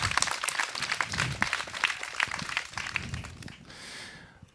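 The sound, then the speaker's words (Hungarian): An audience at the Margó Fest in Szentgyörgyvár applauds to welcome a guest, with dense, crackling clapping that holds steady for about three seconds, then thins into a softer, fading wash of scattered claps. “Köszöntsük őt egy nagy tapssal.”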